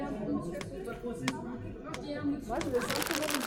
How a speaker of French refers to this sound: Ah, les emballages papier. Eux n'ont jamais été très discrets. Au contraire, le bruit du papier froissé et arraché donne inconsciemment le même effet que lorsqu'on ouvre un paquet cadeau.